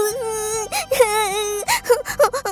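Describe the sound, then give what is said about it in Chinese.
A high voice imitates a little squirrel crying after a baby elephant splashed it out of a pond, with long wavering wails broken by short sobbing catches, repeated several times over a couple of seconds. “小松鼠呜呜地哭了起来。”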